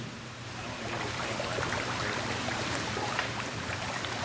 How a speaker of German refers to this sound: öffnet die Klappe des Fischtanks und wirft Futter ins Wasser.